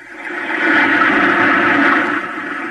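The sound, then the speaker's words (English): Water rushes and gurgles as it is pumped out of an airlock closed by a metal hatch, a loud, steady churning drain that swells in the first second and holds for a few seconds, with no voices. “The water's being pumped out.”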